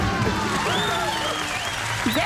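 Steady, dense applause from a group fills the whole stretch at an even, fairly loud level, with faint cheering voices rising and falling over the clapping.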